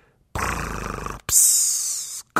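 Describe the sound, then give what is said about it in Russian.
A person imitates loud snoring: a rattling, growly inhale about a second long, then a long hissing exhale, with no other sounds around it. “Но потом дяде Юлиусу приснился, видимо, кошмар, потому что его храп стал звучать так жалобно”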